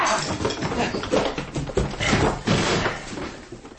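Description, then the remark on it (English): A barred door is battered and broken down, with repeated heavy thuds and splintering crashes over a continuous rough clatter, loud throughout before easing slightly at the end. “The door's barred! Let him break it down!”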